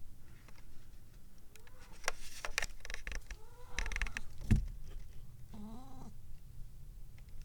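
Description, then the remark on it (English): A female pet cat makes several odd, warbling meows and chirps in irregular bursts over a low background rumble, fairly quiet, with no one talking. “Oh, my kitty is making crazy noises, but she's not facing the right direction, so no kitty noises today.”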